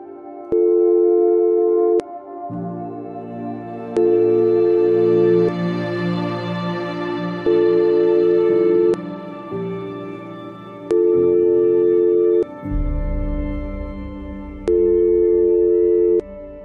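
A steady, mid-pitched telephone tone sounds in long, evenly spaced bursts, each lasting a second or two, over a low, droning musical background that swells and shifts underneath.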